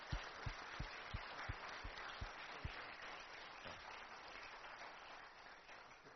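A crowd applauds steadily for several seconds, a dense wash of clapping with a few louder, sharper claps standing out near the start before the sound evens out.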